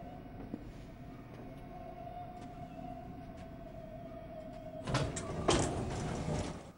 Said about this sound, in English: The lift doors close.